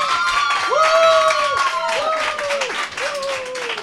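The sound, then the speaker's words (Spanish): A studio audience claps steadily throughout for three young guest musicians joining the show, a dense patter of many hands, with drawn-out tonal voices sliding over the top like cheering or singing. “Un aplauso, chicos, para ellos.”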